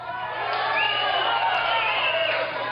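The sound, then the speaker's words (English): A rally crowd, polled by Trump with Hannity present, roars back a shouted response in unison, chanting "throw them out". A dense, loud wash of many voices is sustained for a few seconds with no single speaker standing out. “People are actually chanting throw them out.”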